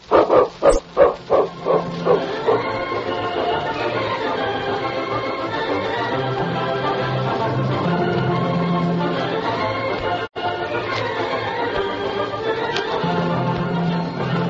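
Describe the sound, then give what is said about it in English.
A dog barks in a quick, loud burst of about seven barks that trail off over a couple of seconds, followed by a long, dense, sustained swell of sound. “I never thought about that dog of yours.”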